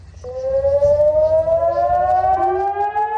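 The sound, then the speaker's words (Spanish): A civil defense air raid siren wails steadily in the north of the country before full dark, a false alarm set off by hackers, its tone slowly rising in pitch over a low background rumble, loud and sustained without any voices. “No estaba del todo oscuro cuando las sirenas sonaron al norte del país.”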